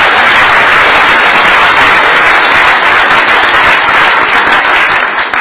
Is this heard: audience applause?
yes